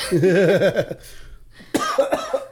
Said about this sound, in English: why does it make me cough?